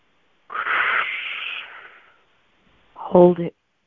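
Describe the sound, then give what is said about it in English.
A long, slow breath drawn through pursed lips as if through a straw during a guided breathing exercise, hissy and steady for over a second before tapering off, followed after a short pause by a brief voiced sound. “Now I want you to focus on breathing as if you're breathing through a straw. And so you're going to take a long, slow breath.”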